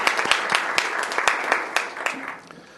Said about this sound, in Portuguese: Palmas para ele aqui, alegria enorme.